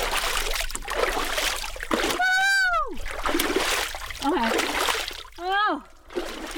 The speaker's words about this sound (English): decide to try just a little splash of ice water on our face and hands.